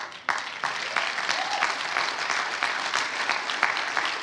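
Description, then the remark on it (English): A church audience breaks into applause, a dense, steady wash of many hands clapping that holds at a fairly loud, even level throughout, with no voices rising above it. “Now, you clapping, but let me flip this side now.”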